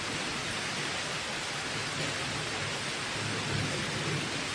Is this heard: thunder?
yes